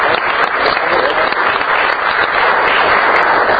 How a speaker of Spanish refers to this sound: Yo creo que serían de los logros más importantes que recuerdo yo en este momento que ha hecho el CIMAPA, y la verdad que sí, han hecho un excelente trabajo, y yo creo que hay que darles un aplauso también a todos, a nombre de todos los trabajadores.